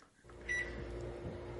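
A parrot mimics a microwave oven's beep while pecking as if pressing the microwave's buttons: one short, clear, moderately loud electronic tone over a steady low background hum.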